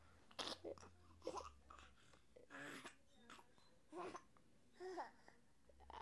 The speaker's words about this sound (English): You got the hiccups again. Look here, it's gonna take over your body, just make you jump.